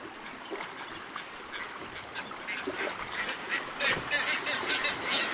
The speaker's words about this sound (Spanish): Ubicada en el Golfo de California, esta isla es hogar de cientos de aves marinas que encuentran refugio para reproducirse, incluyendo las colonias más grandes del mundo de pájaros bobos patas cafés y de bobos patas azules.